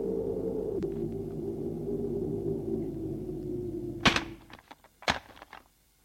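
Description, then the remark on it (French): An apartment building's entrance door opening after an old man presses a button: a steady low electric buzz holds for about four seconds, then breaks off with a sharp clack, followed by softer rattles and a second solid thud. “Le vieux appuie sur un bouton pour faire ouvrir la porte d'entrée.”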